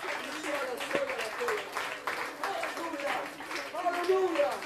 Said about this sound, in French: Alléluia. Applaudissons le Seigneur. Louons le Seigneur quelques instants.